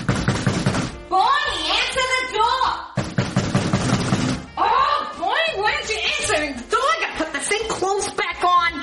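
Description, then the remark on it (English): Rapid, loud knocking on a door by someone standing outside in the freezing cold comes in a few bursts, with voices talking between and over the knocks. “What took you so long to answer the door, the fuck?”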